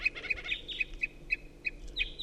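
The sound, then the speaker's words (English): A wild bird up in a tree calls in a rapid series of short, high-pitched chirps, repeated about eight times in a quick, slightly uneven rhythm over a low background hum. “Up in the tree, a wild bird.”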